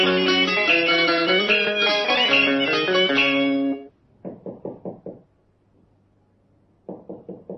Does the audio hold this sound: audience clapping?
no